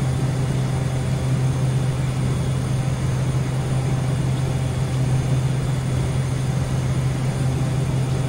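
A steady, unbroken engine drone fills an airplane cabin in flight, a deep low hum beneath a broad constant rush of air, even in loudness throughout with no voices.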